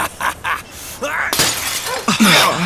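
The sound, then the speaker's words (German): The glass pane of a police station door is smashed in with one sharp crash, followed by a bright scatter of falling shards. Voices murmur and exclaim around the impact. “Der hat die Scheibe der Tür eingeschlagen.”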